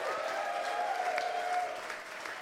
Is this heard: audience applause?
yes